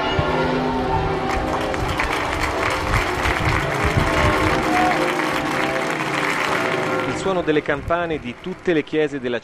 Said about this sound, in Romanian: Sunetul clopotelor tuturor bisericilor din oraș, corurile și aplauzele oamenilor au salutat sosirea papei în elicopter la Arezzo.